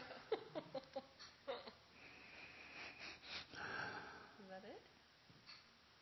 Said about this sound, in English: I have frankincense oil. If anybody wants to smell. Yeah? Can I sniff that? I promise not to drink it.